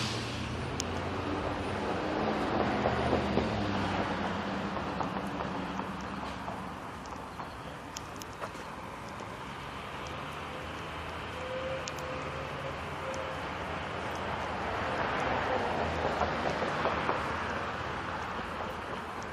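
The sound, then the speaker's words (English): A fire truck, sounding like a garbage truck, comes up from behind in a neighborhood, its deep diesel rumble swelling louder and then easing, with no siren, just steady heavy engine and road noise. “Oh, fire truck. I was expecting that to be a garbage truck. It had that sound to it.”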